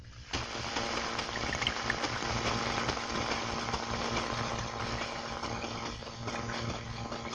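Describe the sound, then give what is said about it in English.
The propeller of a new 10,000-ton passenger freighter heard underwater from a submarine, 6,000 yards away, traveling at 10 knots: a steady, dense churning hum with low droning tones, continuous and unchanging for the whole stretch, with no voices; a sputtering noise comes from the submarine. “A 10,000-ton new passenger freighter of our own fleet has this sort of sound.”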